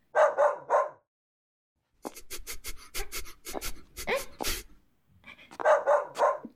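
dog barking

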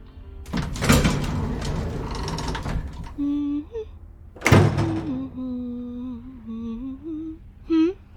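doors opening and closing

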